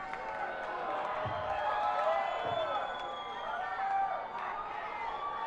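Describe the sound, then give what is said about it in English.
A large audience yells and calls out together, a dense, steady roar of many overlapping voices lasting the whole stretch, swelling slightly midway before easing off. “How quickly they boo.”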